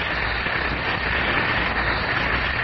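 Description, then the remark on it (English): Two Alka-Seltzer tablets fizz steadily in a glass of water: a dense, even crackling hiss with countless tiny bubbles popping, holding a constant moderate level throughout with no voices. “Just drop two tablets into a glass of water like this. Listen for a moment to the famous fizz.”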